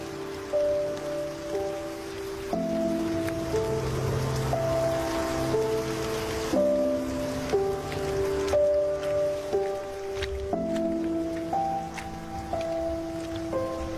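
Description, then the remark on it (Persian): Steady rain hisses continuously throughout, mixed with soft sustained musical chords that shift every couple of seconds; no voices. “مثل سمفونی بود که فقط برای من ساخته شده بود. صدای بارون،”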